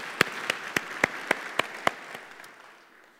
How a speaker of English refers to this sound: And we cannot forget, of course, everyone tuning in at the Juvenile Detention Center. We can give them a warm applause.